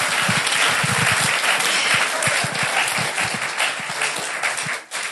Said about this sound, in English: Give the Lord a hand clap. Applaudiert dem Herrn.